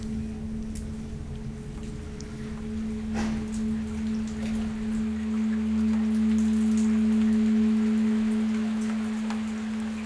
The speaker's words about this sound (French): Des gouttelettes d'eau.